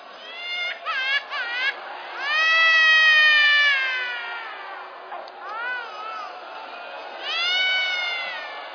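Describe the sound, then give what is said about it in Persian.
A cat cries with plaintive, drawn-out meows: a few short calls, then several long wavering wails in sequence, fairly loud, with no talking. “یه بچه 6 ماهه میخوای صدا گریهشو گوش بدی شاید دلت بلرزه.”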